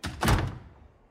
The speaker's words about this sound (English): Jimmy goes into his dressing room and shuts the door in their faces.